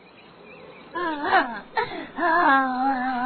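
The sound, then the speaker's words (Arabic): A voice imitates an old fox sobbing alone, in two drawn-out, wavering wails with a short catch of breath between them, fairly loud, with no words spoken. “أحبائي، بعد أن رفضت العصافير وبقية الحيوانات أن تتكلم مع الثعلب العجوز أو تقترب منه، جلس المسكين لوحده يبكي ويبكي.”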